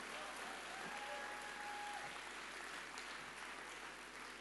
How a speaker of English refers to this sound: So if you're a granddad this morning, I want you to stand up because we're going to give you a great clap this morning. All the granddads in the house, here they are. We love and appreciate you.